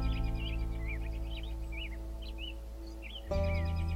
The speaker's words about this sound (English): I was just sitting here at the edge of the field leaning against the trunk of a tree and watching some American robins bicker high above me.